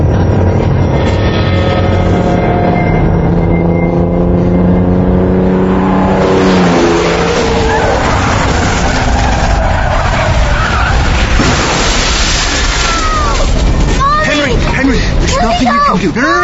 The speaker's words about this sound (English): You were in the car. It was spinning.